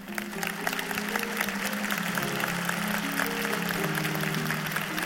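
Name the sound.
audience applause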